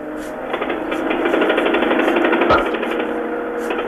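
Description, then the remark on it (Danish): On a radio news broadcast, a pneumatic drill hammers a hole in the concrete of the Berlin Wall from the East German side in the morning: a rapid, continuous rattling pulse with a gritty mechanical tone and a brief heavier thud midway, no voices present. “Det er lyden af et trykluftsbord, der her til formiddag bankede hul i Berlinmuren fra den østtyske side.”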